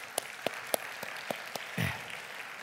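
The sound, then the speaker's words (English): A church audience applauds the worship team of singers and musicians in a steady hiss of many hands, with several sharp, evenly spaced claps standing out on top, and a brief low vocal cheer near the end. “And let's give them a round of applause this morning.”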